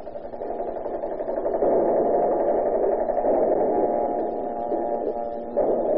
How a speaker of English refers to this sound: Do you hear that? Yeah. It's the air raid warning.